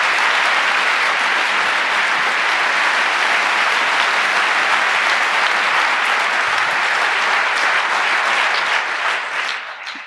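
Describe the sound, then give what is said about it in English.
A large audience claps steadily for three speakers taking the stage, a dense, continuous wash of applause lasting about ten seconds, loud, starting to taper off right at the end. “And this is your stage, and please give a warm round of applause to all three of those.”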